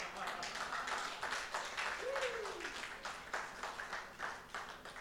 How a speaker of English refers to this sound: I thought you are clapping unto Jesus.